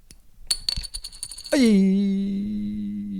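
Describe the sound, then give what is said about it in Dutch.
Light clicks and rattles as a small plastic coin marked with a blue dot is tossed, then it lands with a bright ringing tone that wobbles and slowly settles for about two seconds, with no voices. “Nee, ik gooi hem nog op. Ik liet hem even vallen.”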